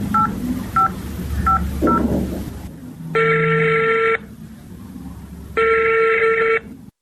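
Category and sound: signal or alarm, telephone number being dialed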